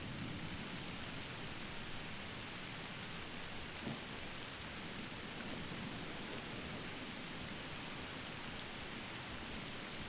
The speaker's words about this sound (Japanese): なんか、雨の音って、私、子供の頃を思い出すんです。なんだろうな。自分でも、よく、わからないけれど。